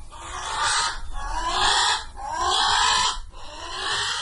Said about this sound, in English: Today, Hawaiians can once again hear the calls of more than 100 Hawaiian crows, or alala, as they are called there, but only in aviaries.